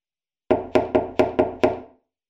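Six rapid, forceful knocks on a wooden bedroom door, loud, each with a hollow resonant thud, in a quick, slightly uneven burst with no voices: an older twin sister furiously knocking on her younger sister's bedroom door in a detached house.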